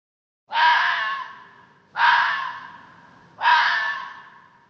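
A fox gives three harsh, raspy calls, evenly spaced about a second and a half apart, each starting sharply and fading out, fairly loud with nothing else around.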